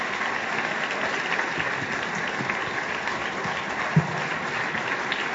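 A crowd applauds steadily, a dense, even wash of clapping that holds at a constant loudness throughout with no pauses, and one brief sharper knock partway through.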